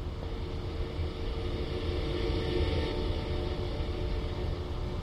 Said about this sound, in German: Dort soll ein akustisches Warnsignal für alle elektrischen oder Hybridfahrzeuge ab September 2014 verpflichtend sein.